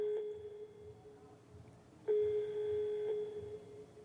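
telephone call ringing tone

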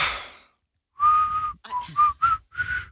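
person whistling

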